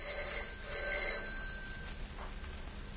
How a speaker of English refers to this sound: She's obviously out. Or very deaf. Not answering the phone.